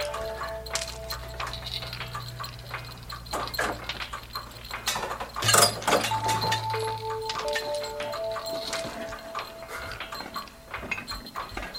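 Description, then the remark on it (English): A small clock chimes with a few clear, ringing metallic tones that linger, mixed with clicks and clinks of the mechanism being handled, moderately loud; its mechanism has been altered so it chimes at random times. “Hey, it chimes.”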